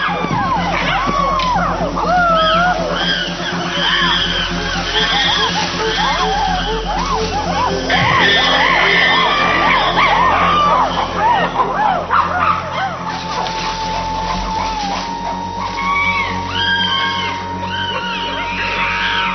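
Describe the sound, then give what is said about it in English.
A chaotic chorus of loud, overlapping shrieks and hooting screams from many attacking animals intimidating their opponents, rising and falling continuously, with a steady rumbling undertone as they drum on buttress roots. “To intimidate their opponents, the aggressors scream and drum on buttress roots.”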